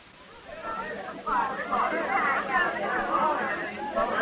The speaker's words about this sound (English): As the third movement begins, we hear the stir and hum of the people in the church, waiting for their preacher to come in and start preaching.